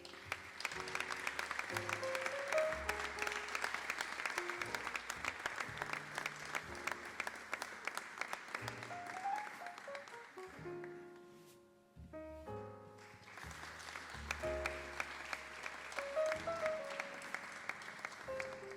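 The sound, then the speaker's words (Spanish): An audience claps steadily, a dense, sustained wash of applause with music playing underneath, welcoming Las Libélulas Flower Shop onto the stage at a 2021 contest awards event; the clapping dips briefly partway through, then swells back up and continues to the end. “Y como no, también para recibir en este escenario, que continúe el aplauso para, en este caso, las libélulas Flower Shop.”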